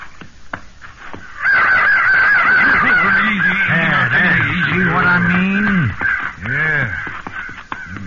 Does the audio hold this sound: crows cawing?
yes